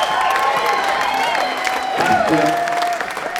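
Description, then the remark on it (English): A large audience at a live concert claps steadily and loudly between songs, a dense wash of applause with scattered whoops and shouted cheers rising over it, sustained throughout without pause. “So this is the spot where we were like hoping everyone would keep clapping, and then this is pretty good.”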